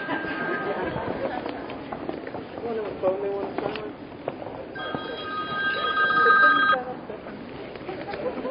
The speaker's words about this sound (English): I hope that's not my phone.